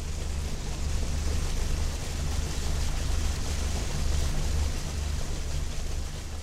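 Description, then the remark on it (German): A boat's engine drones steadily at a low pitch under a constant broad rush of water and wind, unbroken throughout, with no voices, as the boat travels slowly upstream against the strong current of the Brahmaputra river. “Die gewaltige Kraft vom Fluss stemmt sich gegen das Boot. Man kommt nur im Schneckentempo Fluss aufwärts.”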